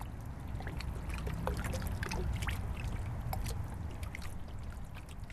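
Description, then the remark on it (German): Gentle dark-green Danube river water laps and splashes against the hull of a former survey ship moored to the bank, a steady soft sloshing with small irregular drips and trickles, fairly quiet, no voices. “Leise plätschert dunkelgrünes Donauwasser an der Hülle der Eleonore.”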